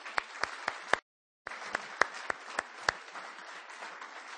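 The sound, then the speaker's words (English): A crowd at New Hope church applauds steadily for the men who have served the church, dense clapping with a few sharp, louder claps standing out, briefly cut off by a moment of silence before the applause resumes and continues. “Would you give them another round of applause?”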